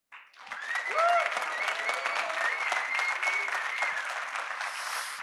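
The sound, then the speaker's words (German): A live audience at the Austrian Sales Days breaks into sustained applause for a live stage show, dense steady clapping with a few whoops and cheers rising over it, holding loud for several seconds. “wir sind heute bei den Austrian Sales Days live auf der Bühne und live bedeutet, wir haben Publikum und ich würde sagen, das Publikum wollen wir jetzt mal hören.”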